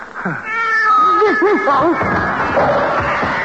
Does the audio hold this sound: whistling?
no